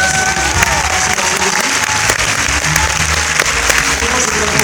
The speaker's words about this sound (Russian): Спасибо огромное, и я надеюсь, что нам удастся исправить, мне удастся исправить, а музыкантам удастся оправдать этот аванс в виде ваших первых перегоревших аплодисментов.